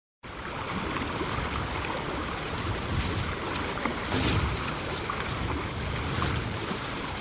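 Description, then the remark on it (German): The Rio Grande rushes and burbles steadily through a narrow bed at the bottom of a gorge cut up to 200 meters deep into rock in northeastern New Mexico, a continuous broad wash of flowing water with small splashy fluctuations, even in loudness throughout, with no voices. “Unten fließt der Rio Grande in einem schmalen Bett.”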